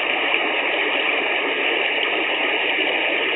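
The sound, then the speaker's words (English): A steady, dense hiss of gas from a seep bubbling and fizzing up through water, continuous, with no pauses or distinct individual bubbles standing out and no voices. “Now, the whole seep's not covered. It's still bubbling all around us.”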